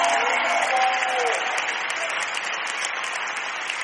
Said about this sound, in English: Clap if I'm preaching right. Clap if I'm preaching right.